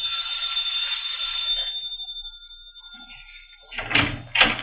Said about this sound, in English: First, I rang the bell.